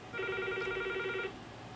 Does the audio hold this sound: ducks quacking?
no